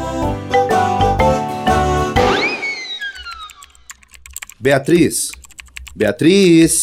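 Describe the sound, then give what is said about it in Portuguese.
Rapid, busy typing on a computer keyboard while posting selfies to a Facebook group, a dense run of clicks, then a bright rising electronic chime sweeps up and fades before people begin talking. “O que é que você tá fazendo aí no computador?”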